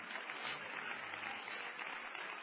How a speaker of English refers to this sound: Clap your hands to the Lord and praise him before you're seated.